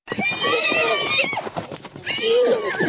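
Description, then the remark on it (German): Przewalski's horses of the Prague Zoo, the stallion Matthias and the mares Lima, Cordula and Kasovia, aged 3 to 5, whinnying loudly on a lush meadow in Dolní Dobšinov near Prague, in two long, wavering calls separated by a brief pause, with no one speaking. “Noch tollen und Wiehernsee auf einer saftigen Wiese in Dolny Dobšinov, unweit von Prag.”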